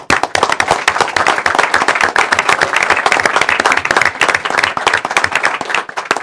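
A crowd breaks into a steady round of applause, many hands clapping in a dense, crackling patter that stays loud and even for about six seconds with no voices. The applause honors a warehouse staff member for over 43 years of service.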